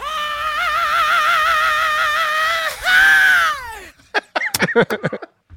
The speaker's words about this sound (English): And by the way, if you like the growl, you might love the scream at 2 minutes and 30 seconds. Here it is.